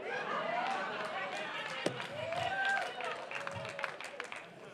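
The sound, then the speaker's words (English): An audience claps in a dense, steady patter of overlapping hand claps, with raised voices calling out over it and one sharp knock partway through. “Now, y'all clapping.”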